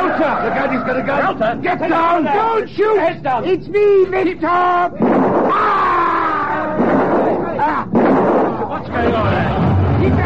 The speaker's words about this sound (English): Take cover! He may shoot again! Anybody hit?